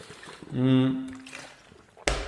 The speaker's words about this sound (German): Ich nehme kurz einen Schluck Wasser.